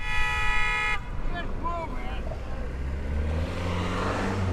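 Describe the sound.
A loud, sustained car horn blares for about a second and cuts off, leaving the steady low rumble of idling traffic with faint voices and brief higher calls in the background, as cars stop in a town road where Kevin, an animal, wanders up to drivers' windows.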